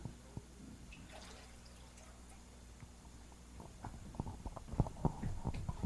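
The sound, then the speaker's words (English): Chicago water being poured into a container, starting with a few scattered drips and building into a louder, denser splashing toward the end, with a low background hum. “Hello, this is 100% Chicago water”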